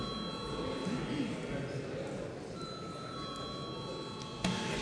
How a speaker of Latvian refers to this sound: Saskaņā ar kārtības rolis pirms mums jābalso par steidzamības piešķiršanu likumprojektam. Lūdzu zvanu.